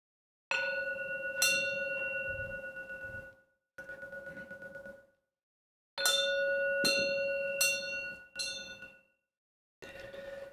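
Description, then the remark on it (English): A bell is struck hard several times in uneven bursts before a talk begins, each sharp clang ringing out briefly before being cut short. It is loud and heard alone with no voices. “That was a bit rough, hitting that bell.”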